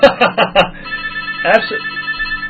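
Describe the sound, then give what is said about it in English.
A telephone rings with a steady, sustained electronic tone that holds for a couple of seconds, heard after brief bursts of voice at the start, with another short vocal sound over it midway. “Someone wants to talk to you.”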